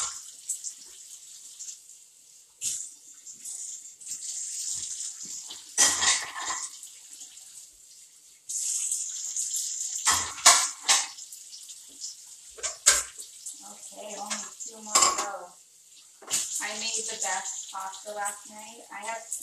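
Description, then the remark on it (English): Steady hiss of running tap water with scattered hollow knocks and clatters as plastic dishes are rinsed and handled; a person talks over the water toward the end. “Most of my dishes are plastic, I'm going to be honest.”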